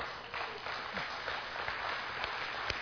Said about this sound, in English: Amen. Yeah, that's not a big enough cheer for God.